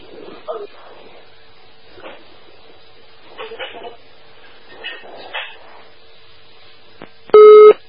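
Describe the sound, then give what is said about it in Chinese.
After several seconds of faint, scattered background noises, a loud, steady telephone busy tone sounds once near the end, clear, as a phone call disconnects. “啊，电话断了。”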